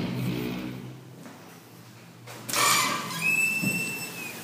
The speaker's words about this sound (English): So yeah, right now I'm walking out of the bird exhibit. This place is amazing. I would stay here forever if I could. I would just live down there. Okay, I'm going through the door. It's gonna echo.